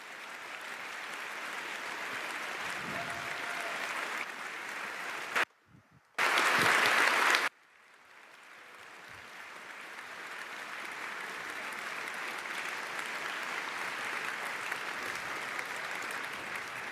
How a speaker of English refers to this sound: So please clap a lot if you have liked this talk. Thank you.